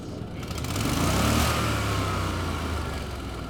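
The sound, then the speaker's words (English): An engine built by South Dakota State University students revs up and holds a steady, loud drone with rising and falling pitch, swelling around the middle, with no voices, at a STEM education event at the Washington Pavilion in Sioux Falls. “Whether it's an SDSU-built engine revving, robotics clacking, or students laughing, the Washington Pavilion is full of proof that local middle and high schoolers are engaging with science, technology, engineering, and mathematics.”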